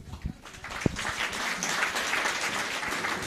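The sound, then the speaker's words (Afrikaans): Steady audience applause at a book event, following a reading from the book. A dense wash of many hands clapping builds after a couple of sharp early claps and holds at a fairly even level, with no voices over it. “Ja, ek dink dit verdien weer 'n bietjie applous.”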